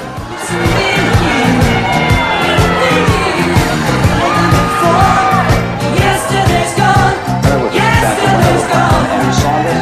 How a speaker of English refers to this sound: They cheer, hug, and wave balloons and flags at campaign headquarters.